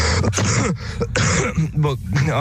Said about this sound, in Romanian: încă mai tușesc.